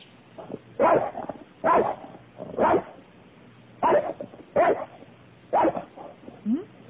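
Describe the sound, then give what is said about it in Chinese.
A dog barks sharply about six times in loose, uneven bursts, loud, ending with a short higher-pitched whine; it is barking at a sparrow that has taken its territory. “怎么狗狗在叫啊？”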